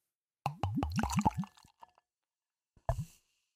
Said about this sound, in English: So I will just pour it in a glass.